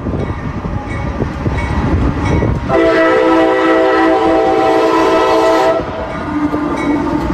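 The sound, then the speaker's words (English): A train rumbles loudly past on the railroad that runs through the middle of the small rural town of East Palestine, USA, with a long steady horn blast sounding over the rolling rail noise for a few seconds before fading back to the clattering wheels. “while driving around the roads that weren't blocked off by train authorities, I saw the town theater, the town car wash, the liquor store, the high school, and separating the town right down the middle is the now infamous railroad.”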